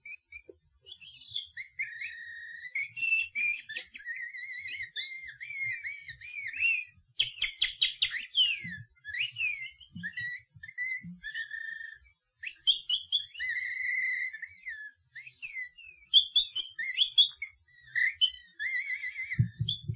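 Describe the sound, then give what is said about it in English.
Nightingales warble in a continuous, intricate stream of high whistles, trills and chirps, phrases rising and pausing at moderate volume, with no voices present. “Let us gently open this window from these windows to the past, to the enchanting warble of the nightingales.”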